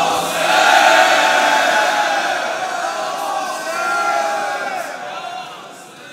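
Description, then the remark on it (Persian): A large crowd shouts "Ya Hussein" together in unison, a loud sustained roar of many voices that swells, dips briefly, rises again and then fades toward the end. “بلند یک صدا فریاد بزن یا حسین.”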